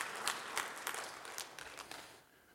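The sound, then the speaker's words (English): A crowd claps together in steady, dense applause that holds for a couple of seconds before tapering off, with no voices. “You might as well applaud.”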